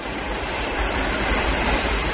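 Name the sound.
train running on tracks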